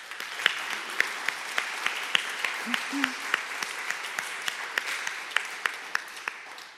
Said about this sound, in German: Und ich würde einfach vorschlagen, wir bedanken uns jetzt mal bei euch, aber auch bei Gott einfach mit einem Applaus für das, was er tut.